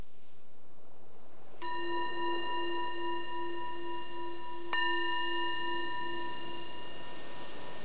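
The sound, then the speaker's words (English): A meditation bell is struck twice, a few seconds apart, each clear metallic strike ringing out with a long, shimmering sustain that overlaps the next. It sounds moderately loud, with no talking. “So the bell is the invitation to let go of all the outward-focused attention and bring attention right in, inside, to see how is it right now.”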